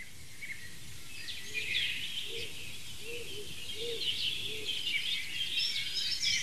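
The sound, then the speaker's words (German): A wild dove calls with a short run of soft, low coos in a steady rhythm, while higher twittering birdsong chatters continuously in the background. “Scout-Taube? Wie nennen sie deswegen so, weil sie so heimlich ist im Wald?”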